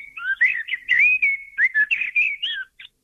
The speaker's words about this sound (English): We'll just try and have a listen to the blackbird song. That people would know this song. Yeah. No, that's the fluty song, rumbly fluty song of the blackbird.